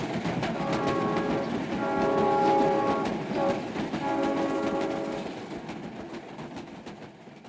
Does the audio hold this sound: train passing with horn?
yes